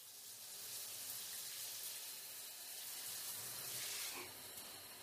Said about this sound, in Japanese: シャンプー終わりましたので一旦シャワーで流しちゃいますね。